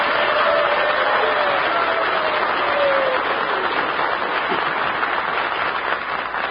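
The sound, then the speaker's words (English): A studio audience on Breakfast in Hollywood bursts into sustained applause and cheering for the Alabama Crimson Tide football team, a dense, steady wash of clapping with a few faint whoops rising above it, holding strong for several seconds. “All right, come on, let's send a cheer to the great Alabama Crimson Tide.”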